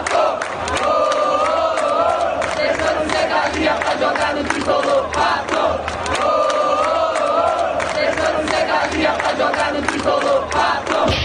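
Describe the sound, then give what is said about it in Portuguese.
A large crowd of São Paulo football fans chants, in unison, a personalized song honoring the player Pato, loud and sustained, the melody repeating as massed voices roar together from the stands. “O Pato caiu nas graças da torcida tricolor e foi até homenageado com uma música personalizada.”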